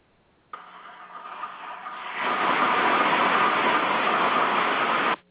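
Team SBO's race car engine, now with oil pressure, fires up and runs with a rough, buzzing rumble, then swells noticeably louder partway through and holds a steady roar until it cuts off. No one speaks.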